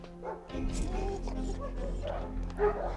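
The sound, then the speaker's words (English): Several dogs inside a building bark and yip in quick, overlapping bursts, with a sharper yelp near the end over a steady low rumble in the background. “Inside, the dogs jerk their heads up as Harvey and Vernon enter.”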